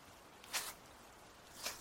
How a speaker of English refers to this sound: I was alerted by the sound of footsteps approaching. My eyes darted open, and I saw that the crowd of red-eyed people were following in after me.